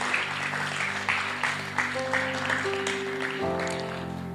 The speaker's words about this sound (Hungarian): Tapsoljuk meg ezeket az embereket, akik meghozták ezt a döntést ma.